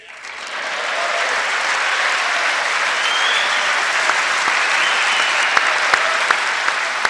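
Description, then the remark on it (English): Trump claps loudly at himself in front of the microphone, over the American flag in the chamber: loud, dense clapping sweeps in after a brief quiet start and holds steady, with a few sharper individual claps popping out above the broad wash of applause. “That's his loud clapping in front of the mic over the American flag.”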